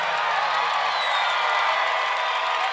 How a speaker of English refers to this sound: And I definitely wanted to get a big round of applause for a band that's been just playing great.